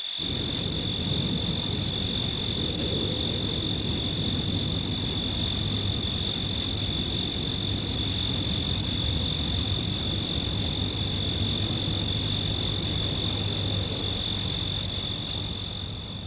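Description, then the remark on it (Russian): Cicadas sing at night, heard from a veranda by kerosene lamplight, in one unbroken, shrill high-pitched drone that holds steady from start to finish, layered over a soft, constant low rumble. No one speaks. “при свете керосиновой лампы, под песней цикад.”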